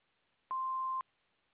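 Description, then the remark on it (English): A single steady electronic beep, about half a second long, sounds clearly at one pitch against a faint hissy background, with clicks at its start and end, like an answering machine tone. “After the beep, we will return your call.”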